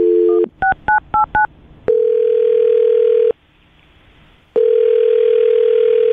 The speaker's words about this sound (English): All right, well, I'm going to dial his phone number right now and see if we can get him on the phone and figure out why he's not calling you back, okay?